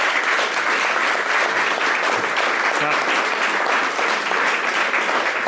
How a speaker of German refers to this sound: bedanken uns und wir sind ja auch hier ein bisschen und ihr als Panelisten, großen Applaus, großes Dankeschön an euch.